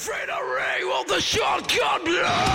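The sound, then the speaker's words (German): A human voice of a Monster Factory performer, who makes monster sounds, lets out loud, sustained monster-like screams and roars, the pitch swooping up and down in several rough bursts with no pauses between them. “Viele sind von der Bühne ans Schreien gewöhnt.”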